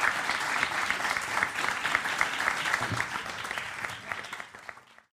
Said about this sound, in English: Ladies and gentlemen, will you please give a warm round of applause to Paul Lynch?